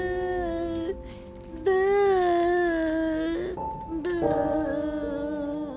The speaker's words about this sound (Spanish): Suena como alguien que está llorando amargamente.